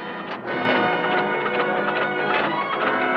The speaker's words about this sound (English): Gotta make a run for it, back to the reed. Allnut fires up the engine.